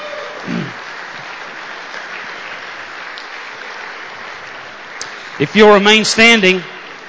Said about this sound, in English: Let's look at our greatest generation that's here today, and let's give these men a nice round of applause.